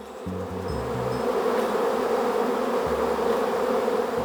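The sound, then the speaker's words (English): A dense, steady buzzing of many Vespula flaviceps wasps swarming in a rural mountain village in central Japan, a continuous droning hum that swells slightly and holds for several seconds, with a low stepped tone underneath and no voices. “I'm talking about Vespula flaviceps, a species of flying insect known in central Japan for its exquisite deliciousness.”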